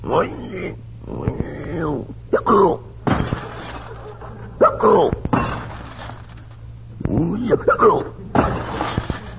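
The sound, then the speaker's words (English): Glass windows in a cabin shatter in a few sharp, loud crashes with tinkling debris, while voices shout and talk in between the breaks. “Put your hand over his mouth before he breaks every window in the cabin.”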